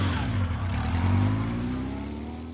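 A small motorcycle engine is started and revs loudly, a buzzing, rumbling drone that holds steady for a couple of seconds before easing slightly, with no voices.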